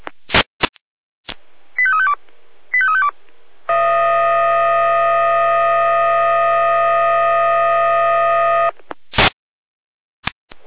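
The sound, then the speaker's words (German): Fire brigade radio alerting tones from the Jena dispatch centre (Leitstelle Jena), calling out crews to an overflowing brook at Klein Pürschütz: sharp squelch clicks, two quick descending beeping sequences, then a loud, steady, multi-pitched alarm tone held for about five seconds, ending in more clicks. “Jena mit Alarmierung.”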